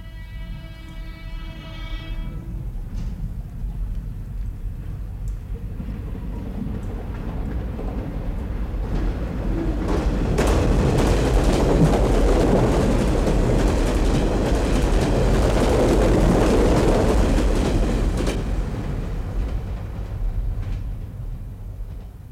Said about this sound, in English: A limited express train comes next, passing right in front of you.